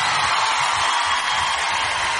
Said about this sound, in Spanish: Fuerte el aplauso para ….